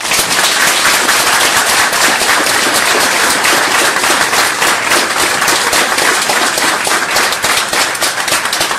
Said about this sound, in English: And now, let's welcome Jaron Brook with our warmest applause.